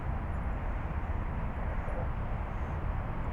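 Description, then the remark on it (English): A steady, dense roar of highway traffic as hundreds of cars pass over Al Garhoud Bridge, a continuous low rumble and hiss with no single vehicle standing out and no talking. “Do you know that we're now listening to hundreds of cars passing Al Garhoud Bridge to your left?”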